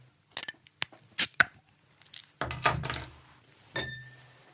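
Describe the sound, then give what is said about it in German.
Glasses clink together in a toast: a handful of sharp taps spread over a few seconds, the last one leaving a short bright ring, with no voices. “Ja, darauf, denke ich, sollten wir jetzt mal in aller Ruhe anstoßen.”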